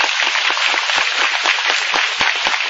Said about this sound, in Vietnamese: Rồi cho ông một tràng pháo tay.